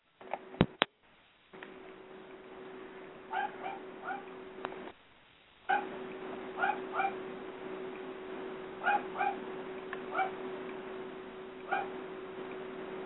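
A dog lets out repeated short, high yips and barks in small clusters, mixed with faint whimpers, over a steady low hum with no talking.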